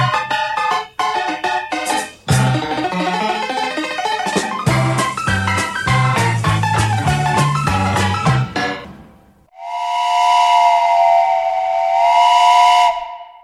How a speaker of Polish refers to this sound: Ze stacji Koluszki rusza pociąg osobowy.